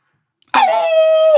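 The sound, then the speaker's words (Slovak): After a brief silence, a voice imitates a wolf howl as the punchline of a joke about a wolf stubbing its little toe on a table corner: one loud, sustained, slightly falling wail held for about a second, with no other speech. “Čo urobí vlk, keď si narazí maliček o roh stola?”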